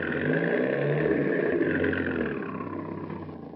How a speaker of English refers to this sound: here comes a Chrysler coupe now, just rounding that corner